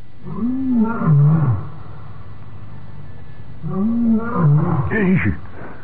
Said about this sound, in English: By George, Marlin! Marlin, it's the same lion we've had last week. He's an addict.